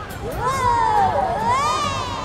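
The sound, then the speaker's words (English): A lively street crowd at a parade in Chinatown roars steadily, with a single high cry rising and falling above the din before the hubbub carries on at full volume. “The trolley travels alongside the lively parade in Chinatown.”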